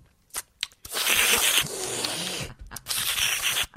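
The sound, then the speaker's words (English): Loud, open-mouthed chewing of pistachios by Zack Ryder: a couple of sharp clicks, then two long stretches of wet crunching and smacking with a brief pause between, and no talking. “He chews with his mouth wide open when he eats normal food.”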